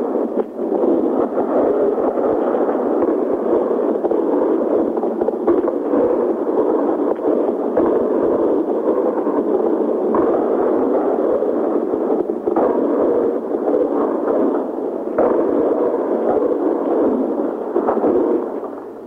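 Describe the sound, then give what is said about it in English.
Anti-aircraft gunfire blasts over Baghdad at night, many miles away, a steady crackling roar packed with rapid irregular bursts, muffled and narrow as if through a phone line, continuing loudly throughout with no talking. “in the distance, many, many miles away, you can hear these blasts again coming through, some more anti-aircraft fire, and I guess a little bit lower down on the ground.”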